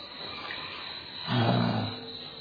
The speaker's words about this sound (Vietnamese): Cái đại chuông này là người ta đóng, ta gọi là đóng chuông, cũng gọi là thánh chuông đó. Mà thánh chuông đây nè, tôi nói các Phật tử nghe nè, tôi thánh chuông đó nè.